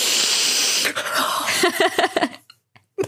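A long, loud, airy inhale with a steady breathy hiss, breaking into a quick run of choppy sniffs that trail off into near silence, with one faint sniff at the end.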